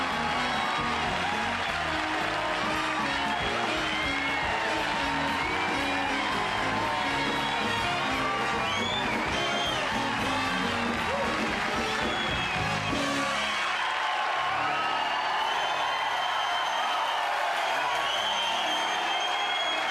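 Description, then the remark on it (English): A large audience claps and cheers loudly as Johnny is introduced with "Here's Johnny," with dense, steady applause and scattered whoops that continue for several seconds before the noise thins toward the end. “You're just clapping because you're out of the airport.”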